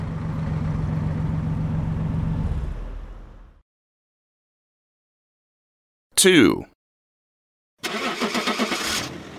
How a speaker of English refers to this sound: The bus is here. Let's go.